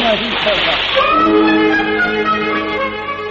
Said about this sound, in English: We 3 brave idiots dived into the cold waters of the River Carpathy.